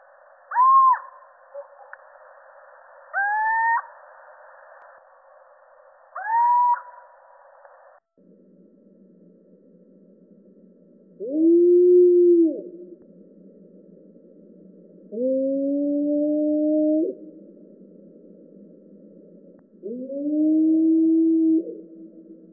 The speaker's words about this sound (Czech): Hlas síčka je velmi charakteristický. Dokáže vyloudit i zvuky, připomínající usedavý dětský pláč.